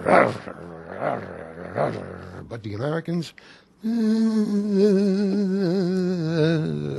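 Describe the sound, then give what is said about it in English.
Comedian Sid Caesar, aged 81, speaks briefly, then his voice launches into loud, sustained droning and growling with a wavering pitch, imitating the engines of World War II fighter planes, Yanks against the Germans, in an old routine. “He remembered an old routine about World War II fighter pilots, Yanks against the Germans. And the planes sound so mad.”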